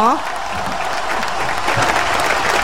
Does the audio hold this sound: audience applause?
yes